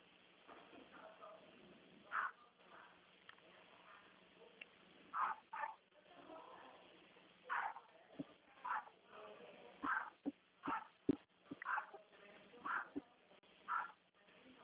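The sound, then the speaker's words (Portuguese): A dog barks again and again in short, sharp bursts at irregular intervals, loud over a muffled, phone-like background hum. It keeps barking at the banging from building work going on upstairs. “Vão batendo lá e ele fica latindo o tempo todo.”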